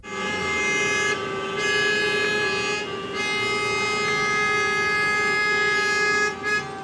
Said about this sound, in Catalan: molts conductors van optar pel claxon com a solució per dissoldre la cua